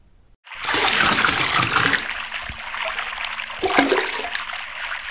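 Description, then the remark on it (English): Water splashes loudly after a brief silence, a rushing burst that eases into steady trickling and dribbling, with a second surge of splashing near the end, as people in a boat paddle up a river. No voices. “They got in the boat and paddled up the river.”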